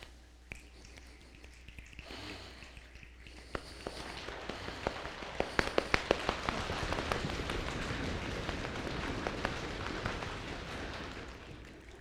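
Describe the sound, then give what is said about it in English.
A crowd imitates a rainstorm with their hands: a soft rubbing hiss swells, scattered finger snaps and sharp claps break in, then a dense, steady patter builds and holds, with no talking. “Are you ready for the storm?”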